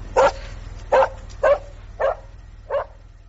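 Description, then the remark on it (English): A small dog named Herb barks five times in a steady series, each bark short and sharp, the last few slightly softer, over a low constant hum with no one talking. “I have a dog.”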